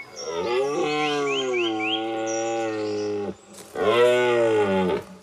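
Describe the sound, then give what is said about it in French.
A stag deer called Le Pèlerin, in a forest, bellows its deep rutting call twice: a long, loud, groaning roar of about three seconds, then a brief pause and a second, shorter bellow, with no other sounds. “Le pèlerin brame une dernière fois.”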